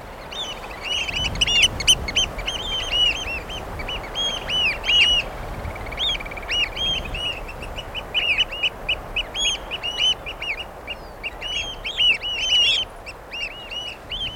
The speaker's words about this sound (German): Also die Vögel, die dir im Alltag so vertraut sind. So vertraut, dass sie fast langweilig erscheinen. In meinem Fall waren das Graugänse.